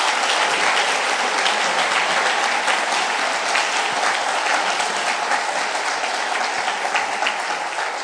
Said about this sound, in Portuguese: Podemos aplaudir? Vamos aplaudir Jesus, aleluia, é isso aí.